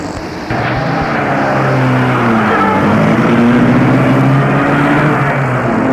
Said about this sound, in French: Se lève et va à sa voiture. Il y rentre dedans.